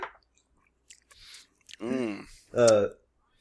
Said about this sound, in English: don't fucking chew into the mic. I am not eating anything. We heard you.